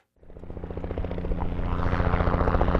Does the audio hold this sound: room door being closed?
no